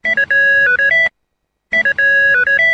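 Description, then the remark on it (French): A phone ringtone for an incoming phone call plays a short electronic melody of stepped tones, pauses briefly, then repeats the same phrase; loud with no talking. “Désolé Hassan, je viens de recevoir un coup de téléphone”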